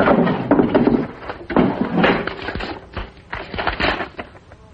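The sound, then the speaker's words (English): A desk drawer holding a report card slides open with scraping wooden rattles in a few rough bursts, followed by clunks and shuffling as its contents shift. No one speaks. “It's still in your desk drawer.”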